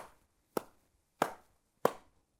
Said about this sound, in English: The beat is a pattern of pulses. Our simplest example is our heartbeat, or a steady clap as we count. 1, 2, 3, 4.